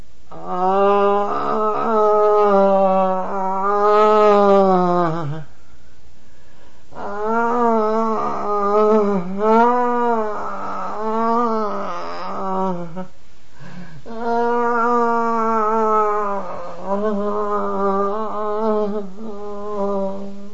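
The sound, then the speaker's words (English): Three long, loud human groans from a person demonstrating a groan as used in Reichian therapy, each drawn out for several seconds at a low, steady pitch, with brief pauses between them and no talking. “Next, the groan.”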